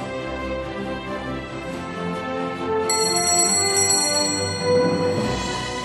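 A small bell is struck once partway through, its bright, high ring lingering and slowly fading over a soft, steady musical background.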